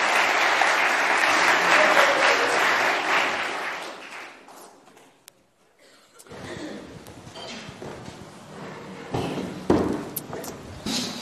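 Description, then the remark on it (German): An audience applauds warmly to welcome four people onto the stage, a dense burst of clapping that fades after a few seconds, followed by scattered footsteps, shuffling and light clatter. “Begrüßt doch mal mit einem ganz herzlichen Applaus hier vorne auf der Bühne.”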